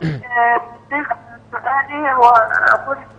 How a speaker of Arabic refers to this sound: حضرتك وطي صوت التلفزيون وغيري مكانك عشان الشبكة عندي غير جيدة. ممكن تغيري مكان حضرتك وتوطي صوت التلفزيون أو تبتعدين عنه تماما.